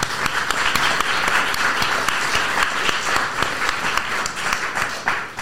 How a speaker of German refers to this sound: weil bei solchen Events sind immer einige wenige Leute auf der Bühne und ganz, ganz viele Leute, die im Hintergrund sehr, sehr viel hackeln, und ich finde, denen gebührt einmal ein kräftiger Applaus.